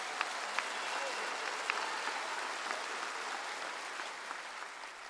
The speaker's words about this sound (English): Give the Lord a hand clap of praise in this house.